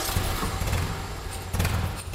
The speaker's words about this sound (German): So klingt es, wenn Fritz Schmidt seinen knapp 60 Jahre alten Triumph TR3 startet.